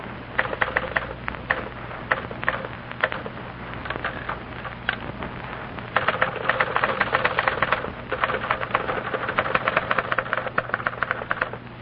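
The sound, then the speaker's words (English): Typewriter keys clatter in rapid mechanical strikes as two typists each type a letter, one very slow and the other three times as fast: at first a sparser, uneven rhythm, then denser and faster. No one speaks. “Listen to these two girls, each typing a letter.”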